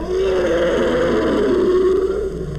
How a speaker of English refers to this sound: Here it is again. More famed is the elephant for its trumpeting. And yet, its roar is one of the loudest animal calls in the world.